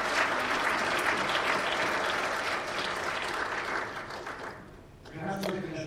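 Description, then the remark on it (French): An audience applauds volunteers for their work on a Sunday, with steady, dense clapping that holds for several seconds, then thins and fades out near the end as a voice begins to speak. “Je crois que on peut vous applaudir pour cela.”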